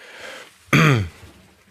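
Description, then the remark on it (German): A single loud throat-clearing cough on request, a short voiced rasp lasting under half a second, standing alone against faint background hiss. “Zum Husten. Husten Sie mal.”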